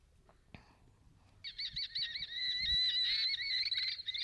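After a brief click, a common kestrel, a falcon, gives its alarm call near its nest: a loud, high, continuous shrill cry with a slightly wavering, rapid quality that lasts nearly three seconds, with no voices.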